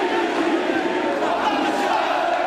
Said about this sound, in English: They waved flags and shouted bread, freedom, and social justice.